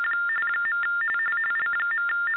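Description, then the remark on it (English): Ham radio interference tones from a ham radio operator chiming in on the call: a rapid, uneven stream of electronic beeps hopping between two close mid-high pitches, thin and band-limited like a phone line, with no voices. “I think it's a ham radio operator who's trying to get in.”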